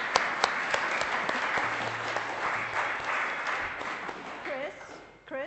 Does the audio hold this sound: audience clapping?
yes